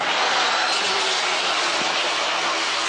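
A steady, unbroken hiss of a floor sander, worked by a kneeling workman, grinding across the wooden floor of a school ballet studio to sand away damage, loud and even from start to finish, with a rough, gritty texture and no voices.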